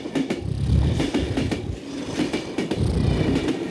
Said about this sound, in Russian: Твою дивизию, ну как тут спать-то? Сволочи, кто такие поезда делает?